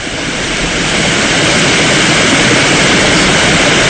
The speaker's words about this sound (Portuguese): Non, son os muiños. Os muiños do Rosal.